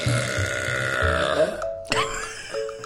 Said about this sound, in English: So I simply decided to buy my own decibel meter, and I burped a 109.